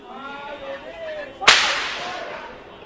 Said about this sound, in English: More shots are ringing out, and everybody's running. They're trying to carry the protester who was wounded out of the way. Shots were ringing out in this direction.